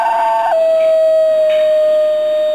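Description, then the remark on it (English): A rare New Guinea singing dog lets out a loud, sustained howl that yodels downward in pitch early on, then holds a steady, pure, siren-like note to the end. “That's the super rare New Guinea singing dog.”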